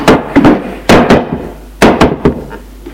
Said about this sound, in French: Monte à l'étage. Frappe à la porte de la chambre de son frère.